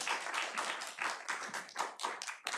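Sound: audience clapping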